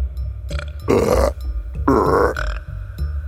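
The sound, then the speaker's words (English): Two loud, drawn-out burps from a woman, each lasting about half a second, one after the other with a brief pause between, deep over a low background rumble, as a finger is held over a point between her ribs below the nipple. “All of a sudden, she starts burping.”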